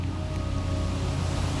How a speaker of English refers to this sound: Imagine you are strolling along a beach, the ocean gently breaking at your feet. The sand slowly fades away with each wave as it passes.